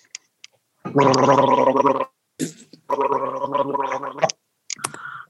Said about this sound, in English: today you're going to be listening to the magical sounds of gurgling.